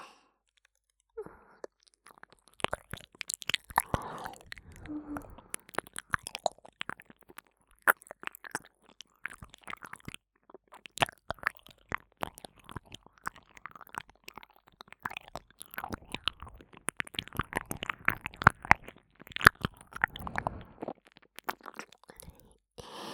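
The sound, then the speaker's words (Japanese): Continuous wet squelching mouth sounds: dense smacking and clicking bursts in an irregular, busy rhythm for over twenty seconds, quiet overall, with no talking. “このエロい水の音、大好きですよね。”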